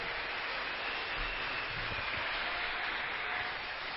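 An audience claps its hands in a dense, steady wash of applause that holds at an even level for the whole stretch, with no voices rising above it.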